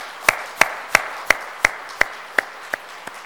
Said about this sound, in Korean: 우리 큰 박수로 한번 축하하겠습니다.